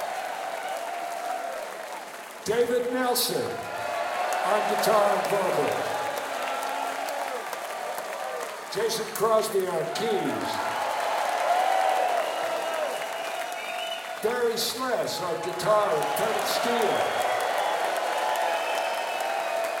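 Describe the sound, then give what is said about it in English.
Steady applause from a crowd at a live concert fills the whole stretch, with scattered cheers, while a man's voice over a PA introduces the band members, including two musicians of a band, in three short bursts on top of the clapping. “And please give it up for … and … of …”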